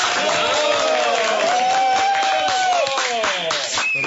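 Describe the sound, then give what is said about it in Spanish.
A crowd applauds steadily for about four seconds for Dr. Rodrigo Rivera, Colombia's high commissioner for peace, dense clapping mixed with loud cheers and whoops from many voices, holding at an even, energetic level throughout. “aplauso para el doctor Rodrigo Rivera.”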